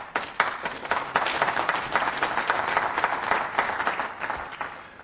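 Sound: audience applause and clapping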